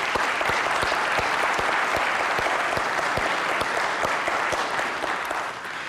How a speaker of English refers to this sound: And I'd like to take a moment. We saw some up here just a moment ago. But just a moment, just can we applaud just the team that is CBC while we're here?